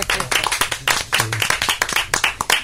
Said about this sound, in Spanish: Merecido aplauso para nuestro técnico. Es la presencia silenciosa, pero sin él no sería posible nada de esto.